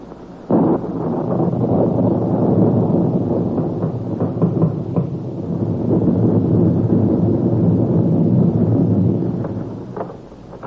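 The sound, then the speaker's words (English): A loud, steady storm roar of howling wind on a stormy January night, with deep rumbling like thunder, starting abruptly and filling the whole stretch with no voices before dying away at the end. “But no blood-tub melodrama could open more realistically than on that stormy night in January”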